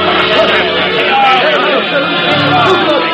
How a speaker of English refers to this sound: A crowd gathered. We were Huguenots, Your Highness. They hated us.